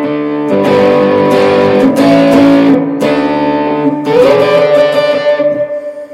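Loud distorted electric guitar chords ring out in several sustained passages as the pickup selector is flicked through the different pickups, the tone shifting between brighter and darker settings with brief breaks between them, no voices present.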